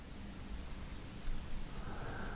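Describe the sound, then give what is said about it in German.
Sea waves rush steadily onto a sandy beach at sunset in a soft, continuous wash of noise, swelling slightly midway, with no voices present. “Das Rauschen des Meeres ist so angenehm beruhigend.”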